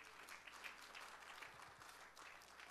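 Many people applaud a man in the morning, a dense, steady wash of many hands clapping at once, moderately loud and sustained throughout with no voices standing out.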